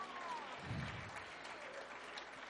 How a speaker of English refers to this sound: Come on. You ought to clap like God is here right now.